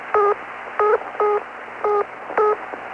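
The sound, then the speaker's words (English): A Luxembourg telephone busy tone heard when dialing an overseas call to a busy number: five short, steady electronic beeps in a fairly regular on-off pattern, clear over a faint background hiss, with no voices. “When the number is busy, you will hear this tone.”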